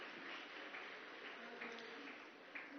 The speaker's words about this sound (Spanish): Si no sabes por qué está aplaudiendo... Aplaudiendo, si no sabes, porque ella se va a bautizar hoy. Amén.